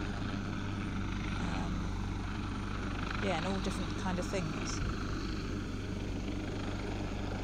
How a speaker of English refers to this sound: I didn't realise the helicopter was coming, that's come to rescue, and then I don't know how we're going to get, whether we get rescued in a boat. I don't think we're getting rescued in that helicopter. Of course, they'd only be able to get so many.